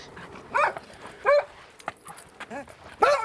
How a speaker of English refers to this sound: The delighted barks of Freckles the dog.